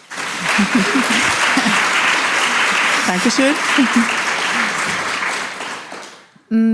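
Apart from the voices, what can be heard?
audience applause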